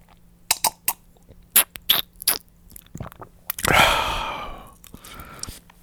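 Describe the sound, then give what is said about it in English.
Someone sips water: a series of wet lip smacks and gulping clicks, followed by a loud, breathy, satisfied exhale that trails off. “had a sip of water.”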